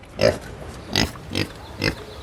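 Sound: kunekune pig grunting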